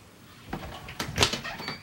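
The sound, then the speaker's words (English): A bottle of water is thrown at a door, hitting it with a dull thud, followed by a couple of smaller knocks and clatters as it bounces and settles. No one speaks. “She throws a bottle of water at the door and pouts.”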